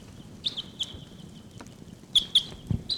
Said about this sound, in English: Wild birds are calling. I think they may take off. Seven four nine and 745 responding. Wild birds calling.